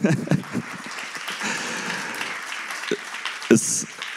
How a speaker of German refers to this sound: Und ich glaube, das ist ein Applaus wert, oder?